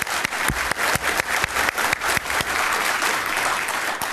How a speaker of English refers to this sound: And that won't be the first round of applause in today's sessions.